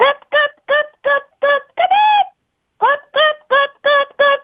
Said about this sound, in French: mais ça fait la poule, hein.